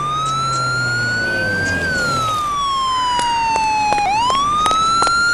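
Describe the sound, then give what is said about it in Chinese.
A fire engine siren wails steadily and loudly as the fire brigade arrives at a fire in a residential compound, its tone slowly rising, dipping, then climbing again, growing slightly stronger over a few seconds with engine rumble beneath and no voices. “消防队，是消防队来了。”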